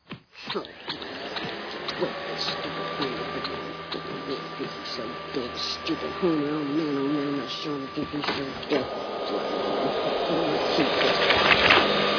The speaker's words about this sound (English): Well, I certainly had fun vacuuming.